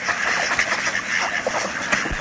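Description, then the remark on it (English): A flock of ducks quacking and chattering nonstop, many overlapping calls forming a dense, steady din at moderate volume, with no talking. “Ducks float in protected bays.”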